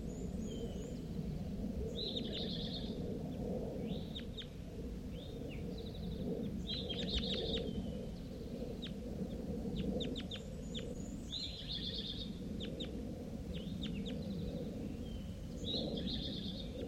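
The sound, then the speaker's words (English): Several birds, some of them juveniles, call repeatedly in short bursts of high, chirpy notes and quick clucking phrases, scattered over a steady low rumbling background without talk. “Five three's calling here. And some of the juveniles are, too.”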